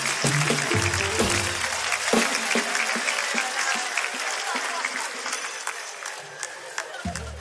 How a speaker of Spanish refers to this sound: Un fuerte aplauso para mi amigo. Un fuerte aplauso para mi amigo.